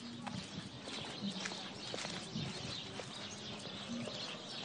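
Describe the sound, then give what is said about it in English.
A dense, steady chorus of many little birds filling a tree along a walkway at Dana Point Marina, chirping and twittering at once, fairly loud, with constant overlapping high calls and no talking. “There's a tree along the walkway that's completely filled with little birds.”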